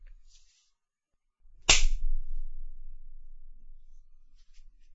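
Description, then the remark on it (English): A single sharp, loud slap of a hand against a person's buttocks, sudden, followed by a low fading rumble in otherwise quiet surroundings. “Can I slap it?”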